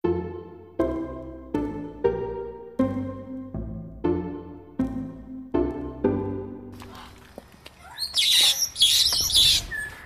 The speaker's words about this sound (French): Qui se trouvent ici sont essentiellement des perroquets et des perruches que l'on a donc récupérés dans la fameuse maison où étaient entassés plus de 300 oiseaux.